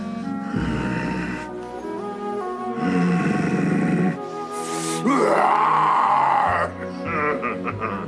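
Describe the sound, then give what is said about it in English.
A person imitates the call of the water kelpie, Nessie, the Loch Ness monster, with drawn-out, groaning vocal moans that rise and fall in pitch. There are several long bellowing bursts separated by brief pauses, loud and throaty with a gurgling, snorting texture. “I can do the water kelpie.”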